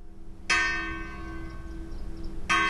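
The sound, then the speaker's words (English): A church bell in Spain tolls twice, slow and heavy, each deep strike ringing out with a long shimmering hum that carries into the next toll, with no voices present. It is rung after three days of official mourning for the victims of the Germanwings airliner crash in the French Alps. “Memorial masses were held today in the French Alps and here in Spain, where church bells tolled after 3 days of official mourning.”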